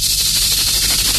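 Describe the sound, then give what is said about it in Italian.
A person imitates a rattlesnake's rattle with their voice, producing a loud, steady hiss with a faint rapid buzzing pulse, held unbroken for just over a second. “Sei un serpente a sonaglie.”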